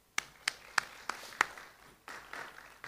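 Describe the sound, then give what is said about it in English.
A few slow, evenly spaced hand claps ring out, then a wider burst of audience applause rises and carries on steadily to the end, with no one speaking. “So let's give ourselves a round of applause.”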